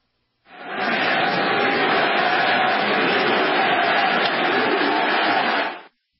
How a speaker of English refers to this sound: Did you hear that crowd? USA! I can't even imitate it, but I immediately, like the hair on my arm stood up.